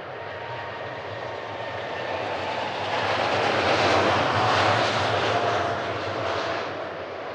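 A jet aeroplane engine roars steadily, a broad rushing drone that swells to a peak midway, then eases slightly, with no voices present.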